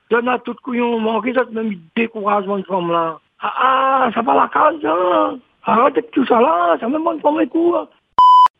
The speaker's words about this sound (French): Vous êtes sur le répondeur enregistreur de la Moukatali. Vous avez une minute pour laisser votre message. Après le bip sonore, parlez.